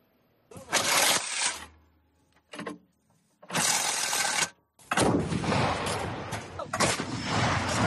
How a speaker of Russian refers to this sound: Наша дальнобойная артиллерия ведет огонь по стратегически важным объектам.